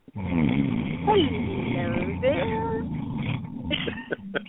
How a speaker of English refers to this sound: What was that? That's … snoring.